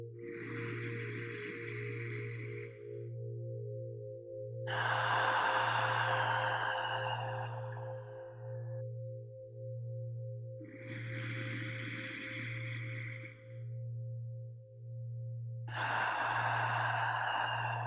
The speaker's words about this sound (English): Deepening that breath now into those long, slow belly breaths. In through the nose. Hold. Out through the mouth. Hold. And continue. Like this.